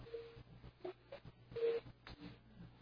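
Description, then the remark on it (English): Faint electronic telephone tones beep over a narrow, muffled phone line, a few short steady pips spaced irregularly against a low background hum and rustle. “Is that your phone there?”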